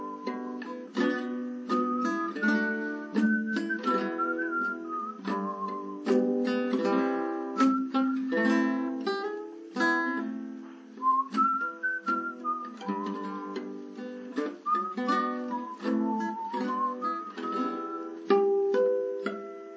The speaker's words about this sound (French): Alors, écoutons un air que je vais plutôt siffler, parce qu'on arrive en sifflant à plus de justesse, surtout si on n'a pas une voix extraordinaire, comme c'est mon cas. Donc voici un chant.